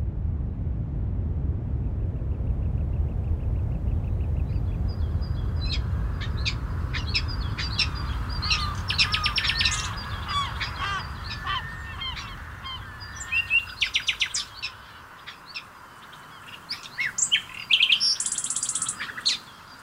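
Several birds chirp and call in bursts over a steady low rumble, with some honking, goose-like calls mixed in; the calls grow busier and louder toward the end as the rumble fades.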